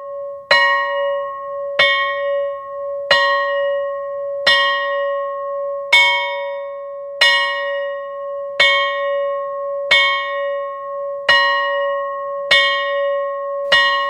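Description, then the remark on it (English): A school bell rings for break in slow, steady strikes, about eleven evenly spaced chimes, each leaving a bright humming tone that lingers into the next. It sounds clear, with no voices. “A few hours later, the bell rang for break.”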